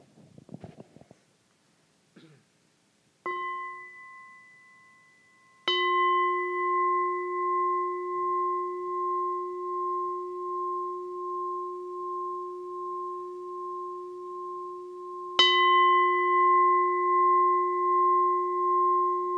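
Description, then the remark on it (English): A meditation bell is struck three times in a Buddhist practice, first a light tap, then two full strikes whose clear tones ring on with a long, gently pulsing sustain, preceded by faint rustling. “While I invite three sound bells, take a deep breath.”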